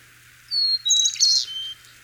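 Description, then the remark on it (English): A Carolina chickadee's call note: a thin, high whistled note followed by a quick burst of buzzy, scratchy chatter, heard clearly and alone against quiet background hiss. “But let's fire up the song of the Carolina chickadee. And no, that's the call note there. Chickadee.”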